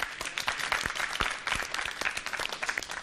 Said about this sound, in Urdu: ان کی حوصلہ افزائی کیجیے گا زوردار تالیوں کے ذریعے.